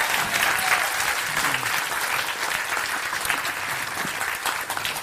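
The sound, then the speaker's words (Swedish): An audience claps steadily for about five seconds, a dense, even patter of many hands at a constant loud level with no voices standing out. “Ja, ni kan få gärna applådera.”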